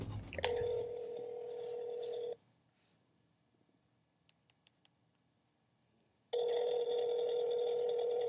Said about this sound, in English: Do you think he'll pick up? I don't know. It's ringing. The suspense is making me anxious.